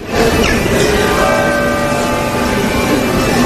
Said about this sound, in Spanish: Ahí está, acabamos de oír las 12:30 en el reloj de la Iglesia Catedral.